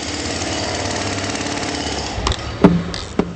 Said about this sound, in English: Below the Acropolis, jackhammers and bulldozers thunder day and night as construction crews race to complete stadiums, hotels, museums, and parks, all in time for the Olympics.